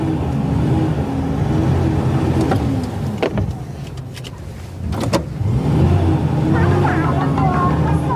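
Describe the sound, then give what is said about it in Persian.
A Patrol car's engine turns over and rumbles as it starts after being pushed in neutral, its pitch rising and falling as it revs, with a few sharp mechanical clicks mixed in along the way. “ماشین روشن میشه.”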